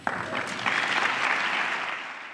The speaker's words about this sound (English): Hear, hear. At least that's what some people were clapping along to the State of the Union address.